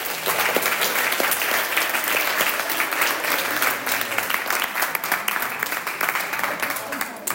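A crowd applauds steadily for several seconds, a dense, even patter of many hands clapping at a constant loud level, with a few sharper claps standing out near the end.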